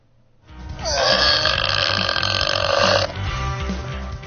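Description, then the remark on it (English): A long, loud, drawn-out burp rumbles for about two and a half seconds with a raspy, tonal quality, then trails off into low background noise. No one speaks. “Because that is a burp.”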